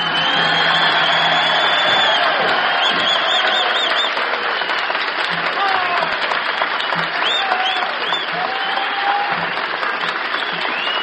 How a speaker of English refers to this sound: the applause is now being volunteered and offered by the paid customers this evening at the Carousel.